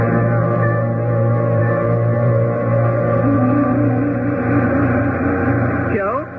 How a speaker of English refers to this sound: Did you hear the big trans train land just now?